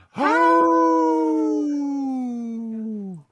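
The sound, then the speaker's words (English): A member of the band imitates a wolf howl: one long, steady, drawn-out note lasting about three seconds, sliding slightly downward at the end. It's fairly loud, with no other voices. “Yeah, we need a wolf in our band, yeah.”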